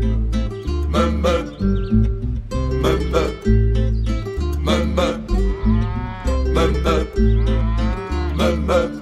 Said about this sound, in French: Donc encore un petit peu de meumeux et c'est reparti.